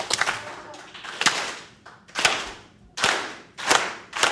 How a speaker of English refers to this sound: He wants them to feel a sense of togetherness. We're going to clap real slow at first and then get faster and faster. Ready? Real slow at first.